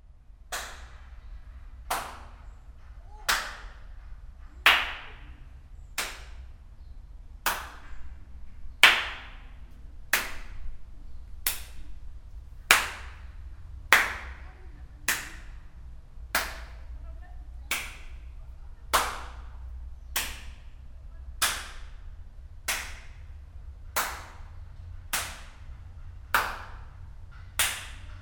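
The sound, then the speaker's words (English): Single hand claps at a slow, steady pace, about twenty in all, each sharp and loud with a brief ringing echo trailing off over a low background hum, sounding out a concert space to establish its acoustics in advance of performances. “We were able to sound these spaces out with whistling, clapping, singing, humming, to establish their acoustics in advance of the performances.”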